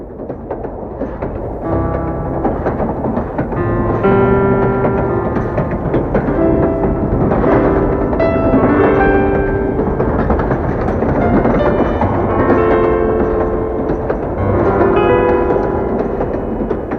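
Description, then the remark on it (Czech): A train pulled by a steam locomotive, travelling from Klatovy to Prague, rattles steadily along the rails with a continuous clattering rumble, loud, joined by sustained tonal whines from the moving cars. No one speaks. “Vlak je špinavý, táhne ho parní lokomotiva.”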